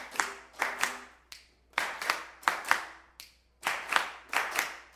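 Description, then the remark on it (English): Sharp hand claps repeat in a steady rhythm on a count during a music lesson, grouped in quick bursts with brief pauses between groups, fairly loud and with no voices over them. “Try that clapped. Ready? One, two, clap it, and one.”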